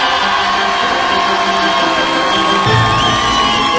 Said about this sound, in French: Mesdames et messieurs, le président du jury, monsieur Jacques Martin, sous vos applaudissements.